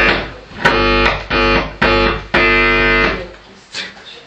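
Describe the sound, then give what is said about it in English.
A loud, harsh alarm sound effect, played during a lecture to wake listeners falling asleep, sounds in four repeated buzzing blasts, each rich and slightly distorted, the last one held longer before the noise breaks up and fades out. No one speaks. “This is just an alarm to wake you, people falling asleep.”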